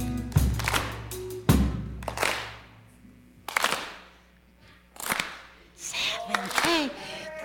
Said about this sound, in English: Now clap on beat. Clap. Clap. Clap. Clap. Good. Nice. That's called the soul clap. Let's see. Let's see if you guys can keep that going without any music.